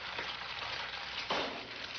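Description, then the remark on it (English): A freshly cracked egg sizzles and crackles steadily in a hot frying pan, a dense hiss with a brief louder burst of spitting partway through. “So he cracks the egg, it's frying in the pan.”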